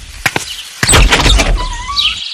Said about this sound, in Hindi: मैंने दरवाजा खोला तो क्या देखता हूं?